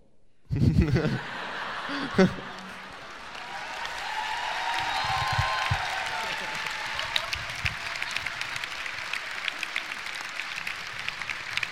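A crowd breaks into steady, sustained applause that fills the whole stretch, dense clapping with occasional chuckles and laughter mixed in, moderately loud.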